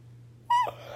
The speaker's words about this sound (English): I am nice and cozy in bed. I have to yawn.